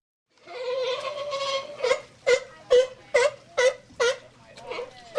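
Recovering California sea lions at the Marine Mammal Care Center at Fort MacArthur in San Pedro vocalizing: a long, wavering moan gives way to a steady run of about seven loud, honking barks, evenly spaced, with no talking.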